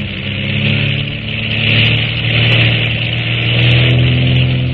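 A loud, steady roar from the propeller engine of a pilotless, guided torpedo plane catapulted off a track on takeoff, a deep droning hum with a rough buzzing edge that swells slightly and holds without a break.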